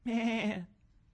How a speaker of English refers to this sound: Oh, little sheep.